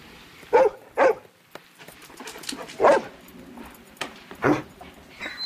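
animal, dog barking

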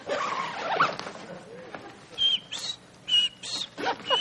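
insect, cricket chirping

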